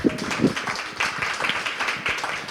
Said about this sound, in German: wir können auch mal in Geiste klatschen. Ja.